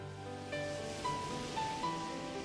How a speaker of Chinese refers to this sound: 小朋友，你喜欢大海吗？蓝色的大海一望无边，白白的浪花一层一层的往岸上涌来，真是美极了。